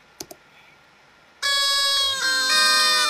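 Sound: horn being blown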